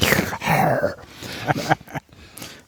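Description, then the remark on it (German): Heavy, raspy breathing comes through loud, a few drawn-out breathy gusts with a low groaning, voiced edge, like labored Darth-Vader-style breaths over a phone line. “Ich bin ganz kurz irritiert, weil wir hier so einen Darth Vader Sound in der Leitung haben.”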